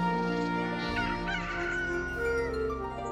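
A chicken clucks and calls in a steady stream of throaty, bawking sounds, loud, with no one speaking.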